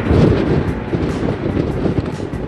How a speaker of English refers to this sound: All geared up, we head back outside into the wind on the pier. It's high summer here, but the gusts give us a taste of what to expect as we head farther south.